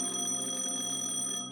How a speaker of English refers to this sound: Office phone rang.